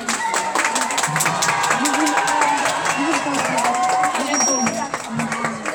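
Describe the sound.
Steady applause from a crowd at a collège (secondary school) event, for the community of communes' waste department and youth services: a dense patter of many hands clapping at an even loudness for several seconds, with voices murmuring and calling out underneath.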